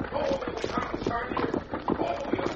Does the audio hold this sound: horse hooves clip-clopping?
yes